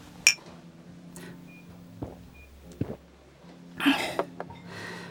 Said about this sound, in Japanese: ほな、乾杯。